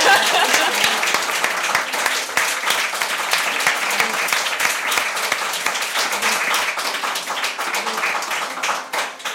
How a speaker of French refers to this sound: En plus, relever le défi d'être notre seule intervenante ce soir, donc en vrai, elle mérite de grands applaudissements.